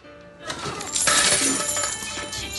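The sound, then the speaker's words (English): A box of coins falls out of a coin machine after its lock is pushed in and pulled open, spilling with a sudden crash, followed by a dense, bright jangling clatter of metal pieces tumbling and scattering for about two seconds. “A box of coins falls out.”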